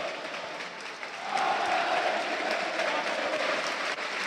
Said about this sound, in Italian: Adesso sentite l'applauso dell'intero pubblico del Tardini, perché da una parte e dall'altra nelle rispettive curve sono stati esposti due striscioni, in quella del Parma Gabriele Vive, in quella della Lazio Bagna Vive,